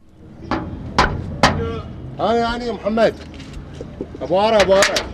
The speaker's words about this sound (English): finally agreed to open the metal doors that protect Meir Tawag Synagogue.